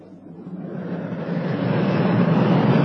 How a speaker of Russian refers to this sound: Оживленный московский перекресток.